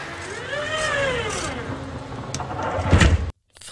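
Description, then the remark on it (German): A tram door closes: an electric motor whines in rising and falling tones over a low rumble, then ends in a heavy clunk before the sound cuts off. “Das ist tatsächlich eine Straßenbahntür im Vorgastraum.”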